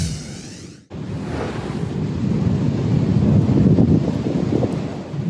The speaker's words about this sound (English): You can hear the power of those storms above Oklahoma in this new video on Fox 50. Officials now confirm at least two tornadoes touched down across the state.